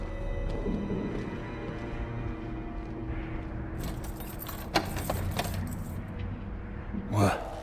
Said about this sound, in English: There's a legend in the City Watch, the Empress's last resort, the safe room inside your daughter's chambers, is holding enough gold to buy an island. And they say this is one of the only two keys.